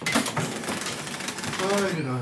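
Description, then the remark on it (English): A shop's original old till clatters through its operation, a dense run of rapid mechanical clicks and rattles, with a voice speaking over the last part. “You might get some nice audio of our till, our original till, which I'm very proud of.”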